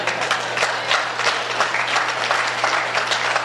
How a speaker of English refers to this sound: Well, if you like that, somebody's clapping, go ahead if you like that.